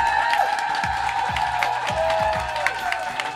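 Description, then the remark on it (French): A live audience at a public radio broadcast at the Ateliers du Vent applauds steadily, dense clapping with scattered cheers and whoops rising above it, continuous and fairly loud throughout. “On peut s'applaudir.”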